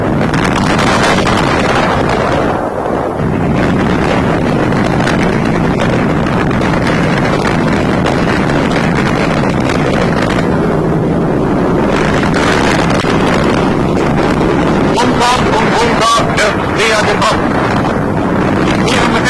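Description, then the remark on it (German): A squadron of Stuka dive bombers roars in, their engines a loud, unbroken droning rumble that fills the whole clip with rough, wind-like buffeting and brief surges in intensity. “Ein neues Stuka-Geschwader braucht heran.”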